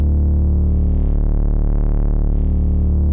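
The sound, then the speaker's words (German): A loud, steady synthesizer drone holds a low pitch: a second VCO, tuned an octave lower, is added, mixing sawtooth and sine waveforms, a smooth sine tone blended with a buzzier layer, its timbre slowly shifting and beating. No one speaks. “Und machen doch auch hier mal den Sinus.”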